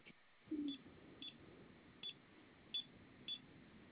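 Short electronic beeps from an alarm system keypad as its buttons are pressed: four brief high-pitched chirps at uneven intervals following a louder, lower tone near the start, over faint background hiss with no talking.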